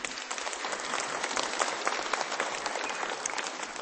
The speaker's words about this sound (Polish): Dziękujemy. Przyjmijmy oklaski dla koleżanki.